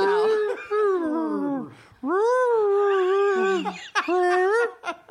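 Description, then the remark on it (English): A human voice imitates whale song with long, gliding, wavering moans, three sustained calls separated by brief breaths, loud with no other sounds. “You hear a whale song, and then you translate it.”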